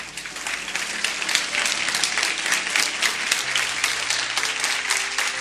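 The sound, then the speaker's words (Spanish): A church audience applauds the Lord during a sermon, a dense wash of many hands clapping at an even volume for several seconds, with soft sustained musical notes emerging beneath it toward the end. “Dan un fuerte aplauso al Rey.”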